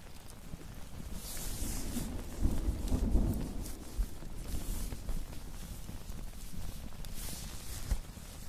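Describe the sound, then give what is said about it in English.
Light rain begins falling, a soft, steady patter with hissy spatters and a faint low rumble partway through, heard alone without any voices. “Rain is starting again.”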